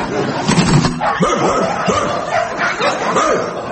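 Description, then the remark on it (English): A small dog called Fufu barks and yips repeatedly in quick, uneven bursts with a few whimpering notes, fairly loud throughout and mostly alone, with only faint hints of voices. “That dog, it looks mad to me.”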